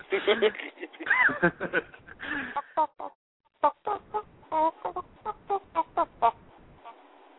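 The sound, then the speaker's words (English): A person does a vocal imitation of a chicken, opening with a warbling squawk and then a run of short, choppy clucks in a steady rhythm, somewhat muffled. “What, are you a chicken now?”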